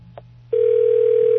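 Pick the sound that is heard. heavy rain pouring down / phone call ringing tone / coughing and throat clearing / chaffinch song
phone call ringing tone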